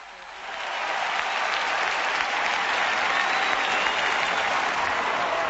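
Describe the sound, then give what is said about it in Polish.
A large crowd at the 2000 gathering at Tor Vergata in Rome applauding and shouting in a dense, steady roar of clapping and cheering that swells in the first second and then holds loud and continuous to the end. “Ale nawet jeśli nie widzą, to mogą słyszeć ten hałas. Ten krzyk usłyszał Rzym i nigdy go nie zapomni.”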